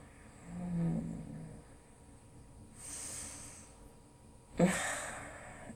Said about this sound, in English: Just deep, even breaths.